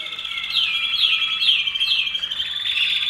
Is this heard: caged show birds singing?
yes